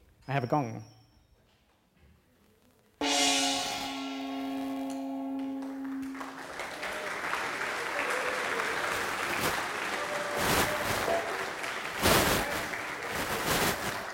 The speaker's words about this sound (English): And after the gong, you should clap. But I guess you know that already.